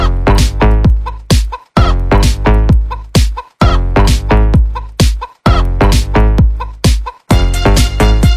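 Loud chicken clucks repeat in a steady, looping rhythm over a booming bass beat, with short pauses between the bursts and no one talking.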